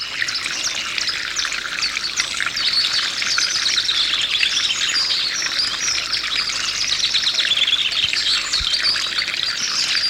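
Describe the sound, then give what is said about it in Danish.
Dense birdsong at a country estate, many overlapping chirps and trills in a steady chorus, with a soft continuous trickle of fountain water beneath. No one speaks. “Hele det charmerende landsted, der genlød af springvand og fuglesang.”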